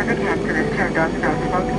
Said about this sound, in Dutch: We gaan naar Moldavië. Met het vliegtuig.